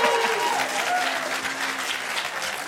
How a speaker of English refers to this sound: So that's applause. I like that. No. Wait, applause? Now you're just giving the audience applause?